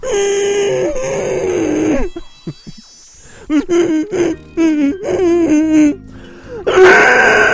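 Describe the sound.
A person hums a bouncy pop melody in sustained, wavering tones, breaking off briefly midway into short puffs, then resuming in choppy phrases before a final loud, strained note.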